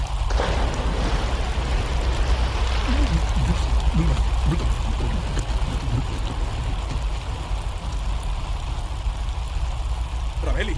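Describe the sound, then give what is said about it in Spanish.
A loud, steady roar of rushing water from a waterfall with a 15-metre drop fills the whole clip without letting up, with faint voices briefly audible beneath the torrent. “¡Vamos de cabeza a la catarata! ¡Hay un salto de 15 metros!”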